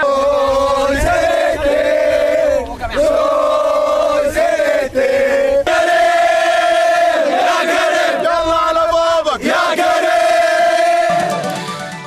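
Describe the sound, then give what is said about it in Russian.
A large crowd of Saudi Arabian football fans chants loudly in unison, sustained voices rising and falling together in a steady, continuous roar with brief dips between phrases. “Вот болельщики Саудовской Аравии, которые так дружно кричали.”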